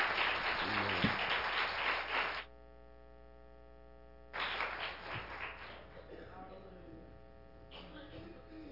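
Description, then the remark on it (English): At a church baptismal service, a crowd bursts into dense applause for a couple of seconds as people come forward, pauses, then claps again more briefly and fades, with a steady electrical hum running underneath throughout. “And if you love Jesus, give them a hand clap of praise as they come forward.”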